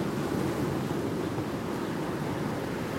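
Heavy surf roars steadily, a dense rushing wash of storm waves with wind noise mixed in, continuous and loud without pause, and no voices.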